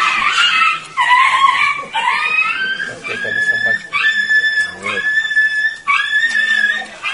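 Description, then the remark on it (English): A puppy squeals loudly and repeatedly, a run of high, shrill, wavering cries with barely a pause between them, filling the whole stretch. “Oh, that's the puppy.”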